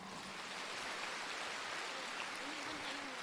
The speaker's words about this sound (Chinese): 鼓掌。